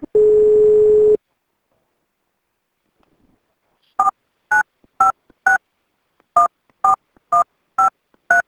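A short steady dial tone hums, falls silent, then eight crisp touch-tone beeps sound as a phone number is dialed, keyed in two quick, even groups of four with no talking.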